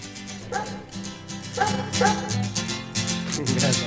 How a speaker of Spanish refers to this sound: Y bueno, y fíjense que tiene un sampler que es un ladrido de un perro, porque acá en esta parte del mundo tener perro es de pobre.